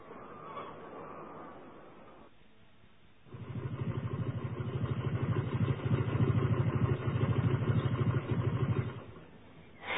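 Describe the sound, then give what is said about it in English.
A motorcycle engine idles with a steady, throbbing low putter that starts a few seconds in and holds loudly, after quieter background sounds at the start; the motorbike has been ridden all the way around the world. “The motorbike I'm sitting on is a very special one.”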